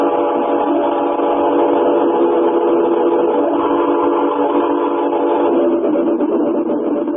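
A train rolls steadily along the rails with a continuous rumble while a long, sustained whistle sounds over it, loud, holding for several seconds without pause.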